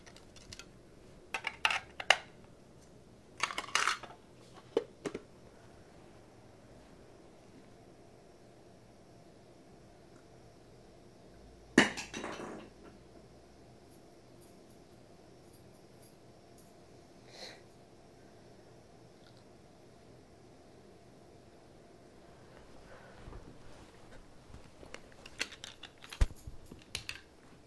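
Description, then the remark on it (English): Someone fiddles with keys: scattered bursts of small metallic clinks and jingles, a few quick clusters separated by long quiet gaps, soft, with no talking. “Playing with the keys.”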